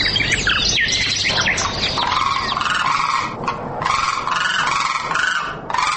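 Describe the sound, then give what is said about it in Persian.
A flock of migratory common cranes calls nonstop, loud overlapping trumpeting and bugling cries layered together for several seconds, with no voices present. “در این برنامه در مورد کلنگ، یکی از پرندگان مهاجر که در دو موقع سال ظاهر می شود، معلومات را تقدیم می کنیم.”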